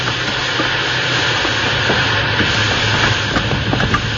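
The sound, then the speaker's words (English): A steam locomotive put into reverse to slow it down hisses loudly and continuously, a dense rush of escaping steam over a low mechanical rumble, with faint clanks scattered throughout and no voices. “I'll give her all the steam you've got back.”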